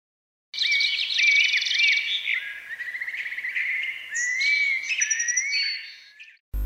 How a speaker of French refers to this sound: Quand j'entends le chant des oiseaux, ça me rappelle mon grand-père.